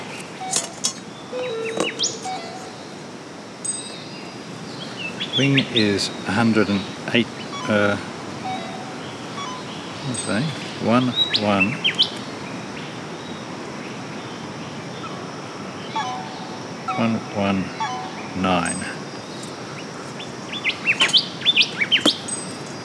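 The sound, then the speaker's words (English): Birds on Lord Howe Island chirp and whistle repeatedly in short bright bursts over steady outdoor ambience, some calls clear, others fainter, with quiet stretches between flurries. “The golden whistler found here on Lord Howe Island, it's not quite a species of its own yet, and it's the same with the silver eyes that are here.”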